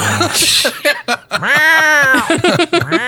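A cat meows, a few short chirpy sounds building into one loud, drawn-out meow that rises and falls, then trails off into softer mews.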